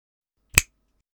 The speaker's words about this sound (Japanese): 今からあなたは私がこうして、って指を鳴らした瞬間、ここまで溜めた快感が一気に爆発していっちゃうの。ほら、もう一回鳴らすから、よく覚えなさい。